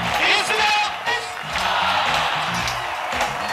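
A large crowd at an Al Gore campaign rally in Florida during the 2000 election cheers loudly and steadily in the middle of the night at 73 degrees, with overlapping shouts, whoops and voices forming a dense, continuous roar that swells slightly throughout.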